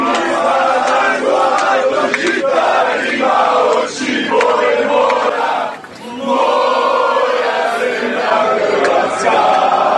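A loud, dense crowd of football fans chanting and shouting together aboard a charter flight to Sochi in support of their national team, sustained and energetic with brief dips, singing in unison.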